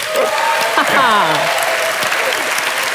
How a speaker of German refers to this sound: Das ist eine Minderheit, die hier klatscht.